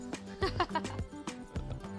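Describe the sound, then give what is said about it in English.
A dog snores loudly in quick, rough, snorting bursts, each pulse carrying a low, buzzy, nasal pitch that repeats unevenly over a couple of seconds. “Here's a tape we got of a dog snoring.”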